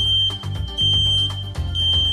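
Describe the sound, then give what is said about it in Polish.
A smoke detector's test alarm, set off by pressing the detector's test/reset button, sounds a loud, continuous high-pitched electronic tone, steady throughout, with a low hum and faint clatter beneath it and no talking. “Warto takie urządzenia testować przynajmniej raz w tygodniu i po wciśnięciu takiej czujki usłyszymy sygnał, za chwilę go zaprezentuję.”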